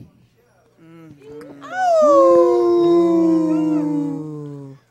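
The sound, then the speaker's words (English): A person imitates a wolf howl, starting with a few short yelps before rising into a long, loud, sustained wavering howl that holds steady and fades near the end. “I will manifest Ikor the Wolf. Woo! Ow! Ow! Ow!”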